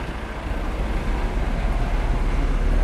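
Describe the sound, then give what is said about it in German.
A large Flixbus long-distance coach bus rumbles as it pulls away, departing for Munich, its deep engine drone steady, filling the space with low, continuous noise. No one speaks. “So, hier fährt jetzt gerade der Flixbus nach München weg.”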